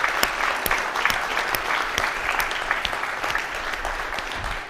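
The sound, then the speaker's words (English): An audience applauds to honor seniors, many hands clapping in a dense, continuous wash with a few sharper claps standing out, for several seconds without any talking. “but we want to honor you, and I think we ought to just have a round of applause for all of our seniors, and especially for all of you.”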